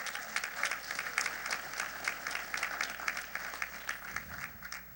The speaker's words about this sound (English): I would to God somebody would believe that word with me this morning and clap your hands and give him some praise right now.